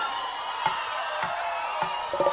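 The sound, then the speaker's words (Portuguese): A large crowd sings loudly together in a dense, sustained wash of voices, with a few sharp claps or thumps cutting through and the sound swelling slightly toward the end. “Essa multidão vai cantar agora bem alto, tá certo?”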